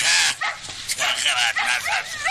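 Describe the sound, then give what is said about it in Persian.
Several dogs bark and yip in quick, overlapping bursts, loud, with some whimpering mixed in across a couple of seconds. “با صدای سگ‌ها چشمایش را باز می کند.”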